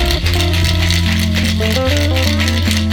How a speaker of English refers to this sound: So, I'm just going to add some ice. So it's going to get a wet shake? It's getting a smack around now. So I just grab some ice, put on my shaker, and let's check.